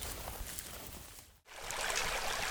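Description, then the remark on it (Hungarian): A babbling stream gurgles and rushes steadily, a continuous wash of water with a momentary dip in the middle and no voices. “ez milyen patak? Ez még itt az én patak.”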